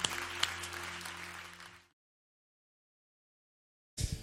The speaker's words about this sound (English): What a gift to be together. We can applaud.